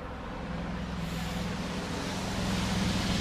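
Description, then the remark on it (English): A big old car drives past in sunny weather, its deep engine rumble and steady road noise swelling gradually louder over a few seconds, with no voices. “That sounded like a big old car going by.”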